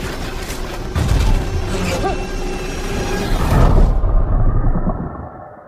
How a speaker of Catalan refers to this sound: Doncs el que escoltàveu eren uns avions de guerra